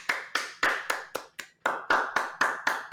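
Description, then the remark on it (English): A single person claps hands at a steady, brisk rhythm, about ten sharp claps with a brief pause midway, fairly loud with no one else joining in, clapping for the Miami Dolphins being ranked number two. “You're the only one clapping.”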